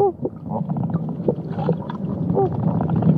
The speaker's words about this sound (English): This video is of some flamingos feeding at the San Diego Zoo. They're stomping their little feet and dipping their heads in the water almost between their legs. They kind of chatter with their big L-shaped bill, then they pull their head out